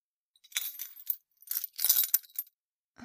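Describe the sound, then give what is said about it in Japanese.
Bright metallic jingling of a key in two short bursts, fairly quiet, with tinkling clinks rising high in pitch before a soft thump at the end, as the key is handed over to someone. “はい、これが鍵よ。一つしかないから、なくさないようにしてね。”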